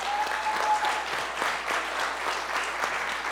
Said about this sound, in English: And I know that Dougie already asked us to stand up, but if you were a kid who served yesterday in the mission trip, can you stand up again? I want you to clap for them again.